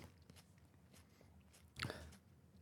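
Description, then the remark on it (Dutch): Someone bites into a crisp hot pepper with one sharp, loud crunch, surrounded by quieter chewing and crackling sounds, with no talking. “Paul neemt nog een hap.”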